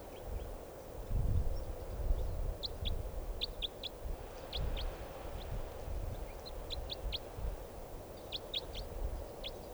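Short, high-pitched bird calls chirp in scattered clusters of quick notes over a steady low rumbling background, with no one speaking.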